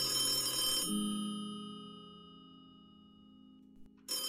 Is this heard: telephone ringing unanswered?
yes